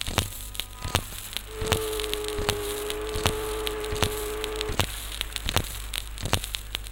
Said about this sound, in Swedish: Detta är ljud som är typiska för New Yorks hamn, en av världens största hamnar. Här samlas fartyg av alla slag, krigsfartyg, handelsfartyg, passagerarfartyg, bogserbåtar och färjor.